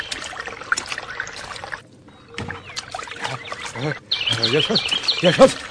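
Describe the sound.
Water sloshes and splashes as a man who has quickly undressed climbs into the water, with brief voices calling out over the splashing toward the end.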